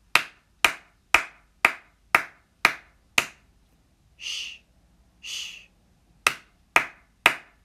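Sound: hands clapping a rhythm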